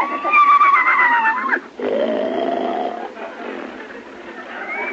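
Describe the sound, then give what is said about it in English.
A horse named Gulliver snores loudly while asleep at a riding ring: a drawn-out, wavering whistle-like inhale followed by a rough, rumbling exhale, then a fainter breathy snore trailing off. “Doggone, he's asleep again.”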